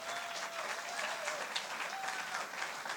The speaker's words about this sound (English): So I just wonder, would you give everyone who volunteered a huge round of applause?